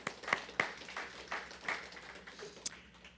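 A brief, fairly quiet round of applause as thanks for framing and painting stained glass: scattered hand claps patter irregularly for about three seconds, a few sharper claps standing out, with no voices over it.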